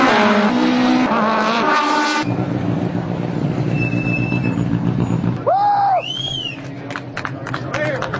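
Loud, continuous engine roar from race cars on the Road Atlanta track, with one car's whine rising and falling sharply as it speeds past near the end, over a steady background din.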